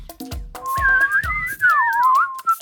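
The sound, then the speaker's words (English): Two people whistle a short melody together, their bright tones weaving above and below each other, fairly loud, with light percussive taps underneath. “That was us whistling Story Salad Quest Mode.”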